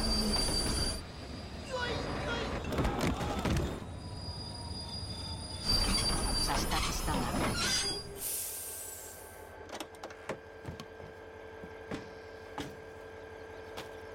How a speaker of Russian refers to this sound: Машинист нажимает на тормоз. Пассажиры падают со своих мест.